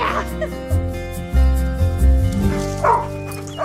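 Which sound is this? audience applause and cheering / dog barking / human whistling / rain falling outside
dog barking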